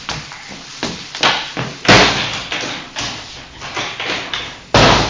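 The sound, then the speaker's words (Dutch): A series of solid thuds and knocks as a door is pushed shut, with several irregular bangs over a few seconds and a final firm slam. “Deur dicht.”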